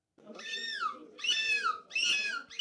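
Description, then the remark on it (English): A contestant at the fifth annual European Gull Screeching Championship imitates a seagull's screech with their voice in three loud, harmonic cries, each sliding downward in pitch, the last one cut short. “This was the fifth annual European Gull Screeching Championship, attracting 60 seagull sound-alikes from 14 countries.”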